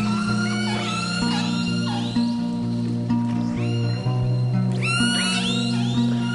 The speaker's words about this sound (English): Group or pod of killer whales actually has its own unique set of sounds, a repertoire of very distinctive calls.